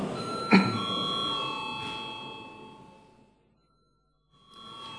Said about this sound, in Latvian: Paldies, lūdzu zvanu.